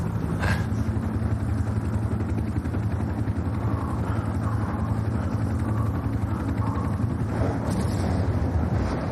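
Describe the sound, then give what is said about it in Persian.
A steady, roaring stormy wind with a heavy low rumble, continuous and loud throughout, with faint gusty swells and no voices. “وضعیت هوا طوفانیه.”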